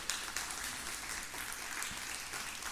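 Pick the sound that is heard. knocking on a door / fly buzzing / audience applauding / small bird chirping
audience applauding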